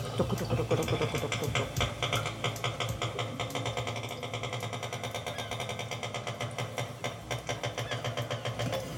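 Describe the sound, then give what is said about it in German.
Underwater recording from a fjord: rapid trains of sharp whale echolocation clicks over a steady low rumble, from at least two whales scanning the fjord, two overlapping click series, one louder and quicker, the other softer, running continuously throughout. “Im Büro wertet sie ihre Unterwassertonaufnahmen aus, die Sprache der Wale. Das ist zur Echoortung.”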